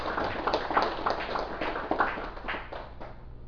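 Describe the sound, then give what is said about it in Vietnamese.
An audience at a dharma talk on 19 October 2002 applauds with a dense, steady patter of many hands clapping, holding at moderate loudness for a few seconds before tapering off at the end. “Xin quý vị vỗ cho tràng vỗ tay.”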